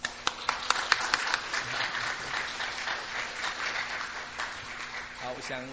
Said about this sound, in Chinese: 他们集团有师母哈，我想请师母哈，师母带着整个队有十几个人，我们请他们起立，我们给他鼓掌好不好哈。